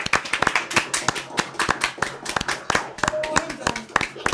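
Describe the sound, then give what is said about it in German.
A small group gives a final round of applause with microphones switched on, sharp, uneven hand claps that stay steady and fairly loud for several seconds, while faint voices mingle underneath. “Also, ich würde mal sagen, wir machen mal all das Mikro nochmal an und dann können wir nochmal einen letzten Applaus,”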